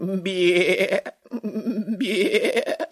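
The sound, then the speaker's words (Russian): A young grey goat kid bleats in two drawn-out, quavering calls, the first short and the second longer and wavering, loud, with a brief pause between them. “Подошел тогда Аист к серенькому козленку, а у того и вовсе.”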